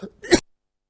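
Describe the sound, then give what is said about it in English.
A brief throat-clearing rasp followed by a single sharp cough, then silence, from a speaker about to read from Mark chapter 5. “Excuse me, I'm just going to cough first.”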